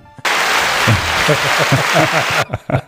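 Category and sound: crowd, applause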